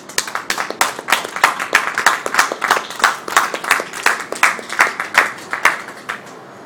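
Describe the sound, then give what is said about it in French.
Audience applause fills the whole stretch, a dense patter of many hands clapping at a steady, fairly loud level, with a slight rhythmic pulse and no voices heard. “Encore une fois, je dirais de symboliquement lancer un applaudissement à la lutte que nos camarades ont fait en Afrique du Sud.”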